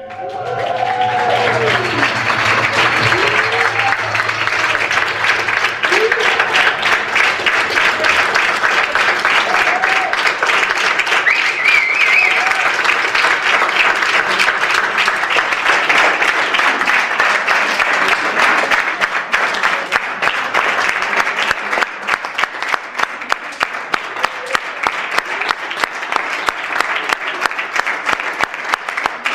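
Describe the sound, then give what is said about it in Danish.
Sustained closing applause from politicians and others present after a band's performance, a dense, steady clatter of many hands clapping for about thirty seconds, with faint voices and a low tone audible at the very start. “Prøv at lytte på det afsluttende lange bifald.”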